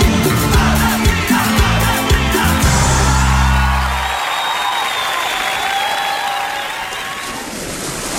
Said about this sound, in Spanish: ¡Todo el mundo gritando!